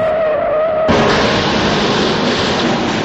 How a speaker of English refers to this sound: Suddenly, Prickle saw something up ahead. He slammed on the brakes.